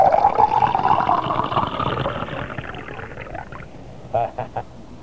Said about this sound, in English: Hey, can I pour you a drink? Double header. Huh? Can I pour you? Let me pour. Fingers.